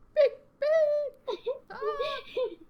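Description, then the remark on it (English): A person's voice imitates a bird's mating call: a handful of high, sliding, warbling whoops in short bursts separated by brief pauses, with no ordinary speech. “Making like bird noises.”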